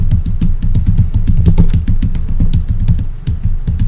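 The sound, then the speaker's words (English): Rapid, steady clatter of keys being typed on a computer keyboard to search the internet, fairly loud, with dense irregular clicks continuing throughout and no voices. “See, I'm typing on the keyboard.”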